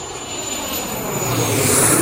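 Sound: airplane engine flying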